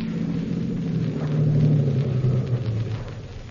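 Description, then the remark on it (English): A car engine rumbles steadily, a low droning hum with a faint tonal whine, easing off slightly toward the end as the vehicle slows to a stop. “Okay, this is far enough. Stop the car.”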